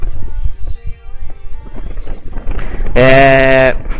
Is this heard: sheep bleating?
yes